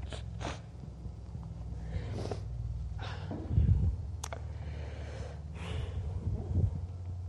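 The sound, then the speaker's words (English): Someone blows their nose, a few short, breathy nasal bursts with snorting and sniffing between them, fairly quiet and with no talking. “I got to blow my nose.”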